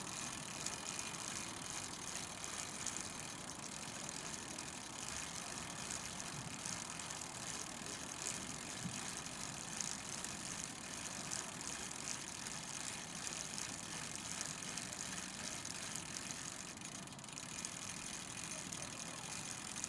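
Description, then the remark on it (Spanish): A bicycle being pedaled, its chain and gears whirring and ticking steadily with a constant rush of road and wind noise for the whole stretch, with no one speaking. “En su lugar una bicicleta. Pues nada, toca darle al pedal.”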